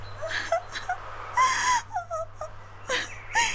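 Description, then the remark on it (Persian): A voice imitates a saddened, hurt rose crying loudly: a series of wailing, sobbing bursts with wavering, sliding pitch and breathy gasps between them, continuous with no speech. “گل روز که همیشه از او تعریف شده بود و به به و چه چه برش می گفتن، از شنیدن این گپا خیلی جگرخون و ناراحت شد و با صدای بلند شروع کرد به گریه کردن.”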